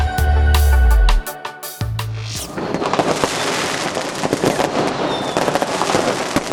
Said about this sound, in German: Heute ist Silvester. Statt Adventskerzen zünden wir Feuerwerk an. Da klopft es und tätscht es dann den ganzen Abend und immer wieder das Staunen, wie der Himmel verzaubert wird.